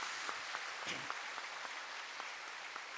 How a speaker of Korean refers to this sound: 앞에 꽃장식에 무궁화 꽃 이렇게 폈는데 우리 꽃을 매주 꼽는 이 이제 권사님 지사님도 있습니다. 우리 한번 박수로 격려 한번 하시고요.